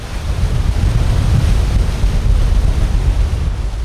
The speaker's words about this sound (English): That's the result of thousands of cubic feet of water rushing out of the reservoir, down into a creek, flowing into the bay. The water's being released to keep the reservoir from overflowing, because this spring, it's been really, really full.